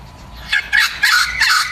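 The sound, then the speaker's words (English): A wattlebird on the Surf Coast in Victoria gives a harsh chucking call, four raspy, throaty bursts in quick succession, fairly loud against a soft background hum. “And that's a wattle bird chucking away in your recording too.”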